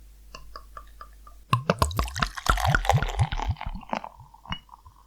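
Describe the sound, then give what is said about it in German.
Tuborg beer, a pale pilsner, glugs and splashes as it's poured into a glass, starting with a few soft drips and then a loud burst of gurgling liquid that fizzes and trails off. “Und wir gießen es ein.”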